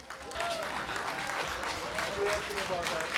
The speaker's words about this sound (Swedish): Det är nämligen dags att dela ut stiftelsen Affe och Berit Glesings minnes allra första stipendium. Så jag vill att vi ger en varm applåd